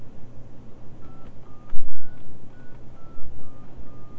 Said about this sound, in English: Take a phone. You want to talk on the phone? Please. Okay. Daddy dial.